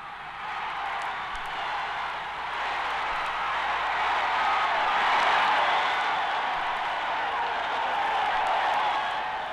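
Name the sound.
football stadium crowd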